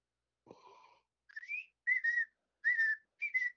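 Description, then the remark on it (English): A person whistles a bird call with no other sound: a low swooping note, then four higher, clear chirps in a short, uneven sequence, each a little louder than the first. “So when they're like, they're hanging out, they start.”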